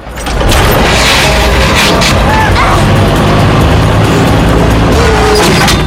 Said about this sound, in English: The crane swings across and hooks the truck, lifting it into the air.